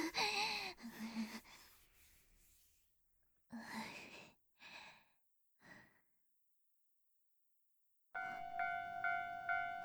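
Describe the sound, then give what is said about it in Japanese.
A train pulls in to a station near the end with a loud, steady metallic whine over a broad rumble. It follows several soft breathy sighs and quiet pauses. “あ、電車来た。”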